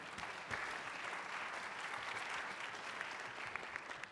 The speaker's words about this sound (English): I think we ought to give Life a round of applause for that one. What do you think?